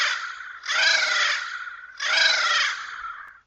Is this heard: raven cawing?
yes